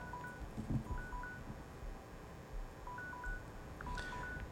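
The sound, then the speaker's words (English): A series of short, high electronic beeps, two-tone like phone keypad presses, chirping in quick pairs at irregular intervals over a low rumbling background hum, with no one talking. “Something's beeping here, and I don't see where the off button's off.”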